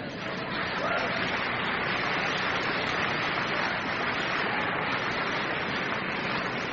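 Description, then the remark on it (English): An audience applauds in a dense, steady wash of clapping that holds at an even, fairly loud level for about seven seconds without letting up. “It's okay to applaud at this point.”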